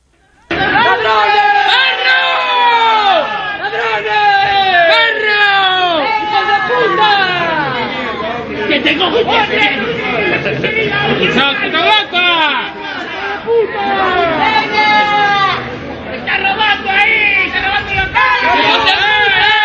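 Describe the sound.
A crowd of more than 200 neighbourhood residents protesting against crime shouts continuously in the street, many voices overlapping into a loud, dense roar of yelling and chanting that stays steady for the whole stretch.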